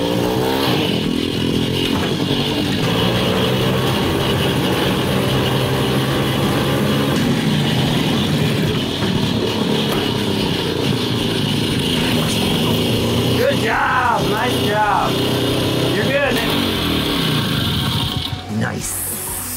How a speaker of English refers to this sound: Thanks for watching me get my first Harley Davidson up and running.